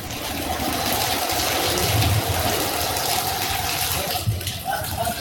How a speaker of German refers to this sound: Die Sonne kommt jetzt wieder hoch, ja, das ist super. Aber es regnet auch immer in Strömen. Schauen wir uns das kurz an, wie es hier in Graz ausschaut.